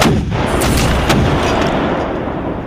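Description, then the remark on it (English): Loud, continuous cannon fire with booming blasts layered over a dense, rumbling roar, several sharp reports cracking through in quick succession. No voices are present. American artillery, including two guns commanded by Captain Alexander Hamilton, firing from high ground on the Hessians' artillery. “The American cannon fire was unrelenting, concentrating their attack on the Hessians' artillery.”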